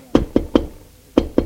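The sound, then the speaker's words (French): A maid raps on the door of a bedroom in the afternoon in two sets of three quick, evenly spaced knocks, with a short pause between the sets. The knocks are solid, with no voices. “on a frappé à la porte.”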